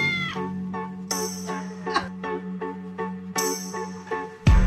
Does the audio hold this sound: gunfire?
no